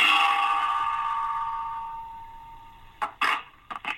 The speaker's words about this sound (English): I've got a frying pan and a big metal spoon. Just bear with me a second. I'll give it a shot.